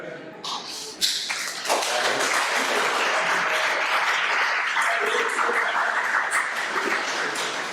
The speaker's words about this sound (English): Thank you. Big applause for him.